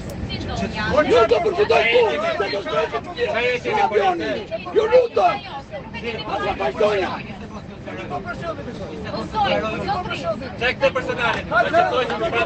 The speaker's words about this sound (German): hinter mir in Reihe 3, die schreien sich gegenseitig an in einer Lautstärke, wirklich, es waren tumultartige Szenen, Leute.